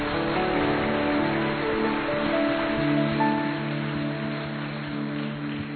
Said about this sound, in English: Would you give the Lord a great hand clap this morning?